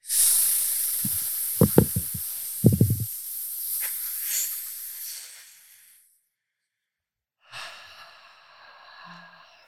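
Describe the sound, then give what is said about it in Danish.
A long, airy hiss of breath being drawn in through a tube during a voice breathing exercise, with a few short low puffs and thumps early on, then silence before a shorter second breathy draw. “Prøv lige at tage ret op igen, og så prøv lige at suge ind.”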